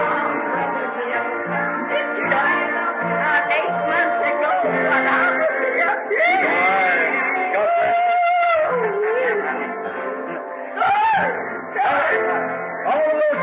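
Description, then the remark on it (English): A woman shouts loudly in fervent worship in a church, her voice rising in long wailing cries over a dense, continuous roar of audience voices. “Shouting”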